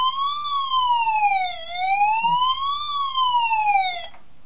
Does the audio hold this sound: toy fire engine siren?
yes